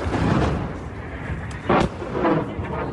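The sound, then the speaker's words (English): A follow-up missile strikes the already damaged building of Russia's naval headquarters, setting off a large explosion: one sharp, heavy blast cuts through a steady roaring, rumbling background. No voices are heard. “More video footage appears to show a follow-up missile striking the already damaged building, causing a large explosion.”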